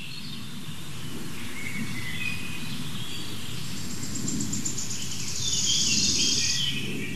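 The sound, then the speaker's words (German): High, thin bird calls come in short whistled phrases over a steady, buzzing insect-like trill and a low rumbling background, growing a little louder toward the end. No one speaks. “Das ist der Vogel, der sich so krass bewegt.”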